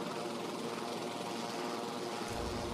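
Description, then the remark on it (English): A steady, loud roar of several of the EUP's helicopters passing overhead, a dense whirring engine and rotor drone that holds constant throughout with a deeper rumble swelling in near the end. No voices. “Several of the EUP's helicopters cut through the air, flanked by Twilight and Draco's changelings.”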